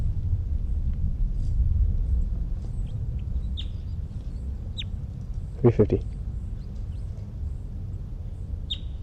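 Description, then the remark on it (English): A bird, identified as bird 305, sings in a few brief, high-pitched chirps spaced several seconds apart over a steady low rumble, with a short rattling burst partway through. “It's 327, and I think it's 305 who's in song.”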